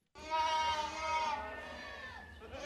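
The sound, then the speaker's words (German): A herd of 300 goats bleats loudly and continuously as they leave a cramped barn and crowd along a narrow field path onto the Wahner Heide heathland behind a goatherd, with two herding dogs circling; several overlapping wavering cries with a low rumble of movement underneath. “300 Ziegen machen sich auf den Weg. Raus aus dem engen Stall, auf in die Weite der Heide.”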